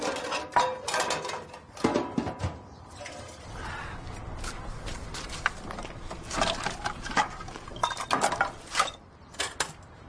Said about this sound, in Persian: لیلا قابلمه ها رو پر از آب می‌کنه.